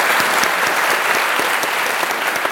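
An audience claps steadily for James O'Brien: a dense wash of many hands with sharp individual claps popping out, loud and sustained with no voices over it.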